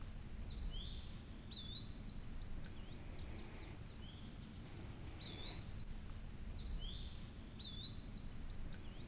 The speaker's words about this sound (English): We can stand here if you want to listen for just a few seconds. We can hear, you know, multiple bird species around us right here. Just listen to the quietness of it.